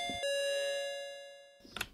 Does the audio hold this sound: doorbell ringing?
yes